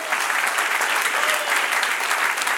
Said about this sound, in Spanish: Dale otro aplauso, Señor.